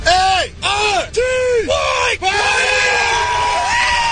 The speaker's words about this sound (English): what are they, just like frat boys, I think, in Florida someplace. And he's got them all shouting, P-A-R-T-Y, party.